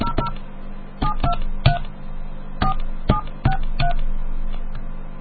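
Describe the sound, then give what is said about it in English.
A string of about ten short telephone keypad tones, each a crisp electronic beep, pressed in an uneven rhythm over a faint steady hum, with no talking, dialing a call to Walt Disney Home Entertainment Consumer Relations. “That's right, let me call this up here.”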